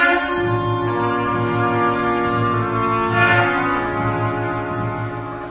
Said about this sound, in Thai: นั่นเสียงแตรสัญญาณให้เราเริ่มออกเดินทาง